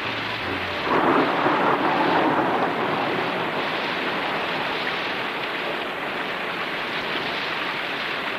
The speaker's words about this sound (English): There's a crack of lightning. It'll probably be thunder. There it is.